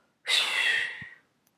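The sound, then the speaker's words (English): A single forceful whooshing exhale through the mouth after a silent breath in through the nose, part of a breathing exercise. It is loud, a broad airy rush that starts abruptly and tapers off over about a second, with no talking. “Making a kind of whoosh noise like this.”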